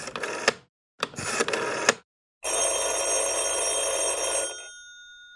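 A mobile phone call ringing tone sounds in two short bursts separated by silence, then a longer sustained ring with a faint fading tail, fairly loud, with no voices.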